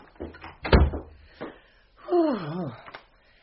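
A door swings shut with a single solid thud and a brief rattle, followed a moment later by a wavering, rising-and-falling tonal squeak, then quiet.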